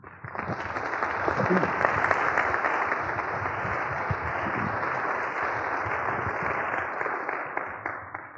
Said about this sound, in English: Don't applaud, throw money, please.